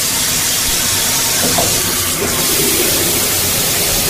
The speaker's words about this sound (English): The sound of the shower running is at number 6. These are the most comforting sounds, by the way.